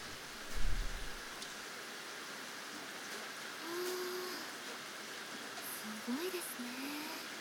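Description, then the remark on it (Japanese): Heavy rain pours steadily through an open window, a dense, even hiss filling the space, with a brief low thump at the start and faint murmuring voices in the background. “本当にすごいですね、今日の雨。”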